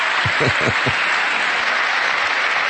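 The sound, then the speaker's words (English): Bernie Sanders gives a few very light, hesitant hand claps in the first second, soft and spaced unevenly, over a steady wash of crowd applause that follows a line about rebuilding infrastructure and continues to the end. “He reluctantly does a couple of little hand claps there. Very, very light hand claps.”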